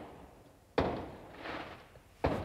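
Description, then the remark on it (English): Two sharp, booming fireworks blasts go off on New Year's Eve about a second and a half apart, each fading quickly, with a low muffled rumble between them and no one talking. “The reason you can hear fireworks, by the way, is because it's New Year's Eve right now.”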